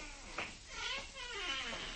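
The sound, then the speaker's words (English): An office door swings open with a loud, drawn-out squeak, its whiny pitch wavering and rising over a second or so, with no one talking. “The killer couldn't possibly open this door to fire his gun without Belsey hearing him.”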